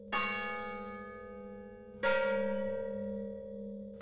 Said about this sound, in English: For the song of Ascensión's death, Joseph Weil and Boone made the first recording of the bells of Mission San Juan Bautista and arranged them for a chorus.